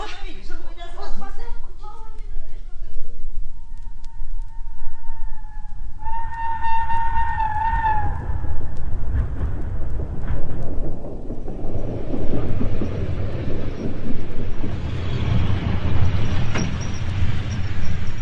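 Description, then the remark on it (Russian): An express train at a busy railway station: a loud horn sounds for a couple of seconds, then the heavy rumble and clatter of carriages rolls on steadily beneath a murmur of voices. “В тот же день в общую вокзальную толчею, опираясь на палочку, вышел из вагона скорого поезда седой человек в коричневом пальто.”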